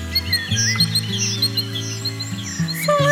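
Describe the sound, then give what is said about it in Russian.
Birds chirp and trill in quick, bright bursts throughout, layered over steady low sustained musical tones that shift pitch a few times, with no voices present. “Слышишь, разливают свой вокал, свой сердечный накал из бокала в бокал. Птицы,”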